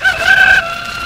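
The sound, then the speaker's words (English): A voice imitates a rooster's crow, one loud, sustained, strained cock-a-doodle-doo call with no other sounds around it. “Listen, I'm a rooster.”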